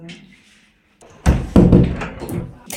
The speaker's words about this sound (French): Alors, évidemment, j'ai dû refermer la porte.